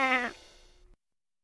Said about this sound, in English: What's that? It's a sheep. It's a sheep.